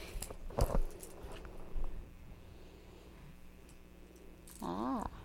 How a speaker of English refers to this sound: Keys. They make noise, huh?